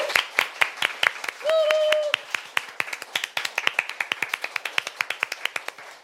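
A small audience applauds with crisp, fairly even claps that continue steadily for several seconds. A brief sustained high cheer rises over the clapping early on.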